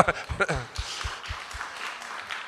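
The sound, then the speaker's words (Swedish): A short burst of scattered applause from a small church audience for the worship singers follows a brief spoken phrase, with the claps fairly quiet and fading over about two seconds. “Men ska vi ge dem en applåd?”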